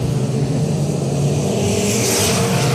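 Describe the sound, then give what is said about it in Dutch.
Racing car engines roar steadily on a track, a loud, dense mechanical drone with a deep rumble underneath and a brighter whine swelling toward the end. “In één keer van 4 naar 2 door een hele mooie binnenbocht. En een goed gereden strakke lijn.”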